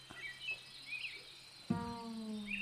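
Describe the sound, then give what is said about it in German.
A mosquito's steady whining buzz starts partway through and holds to the end, over high chirping insects and birds in the background. No one speaks. “Hier ist noch eine Mücke hier auf meiner Schulter.”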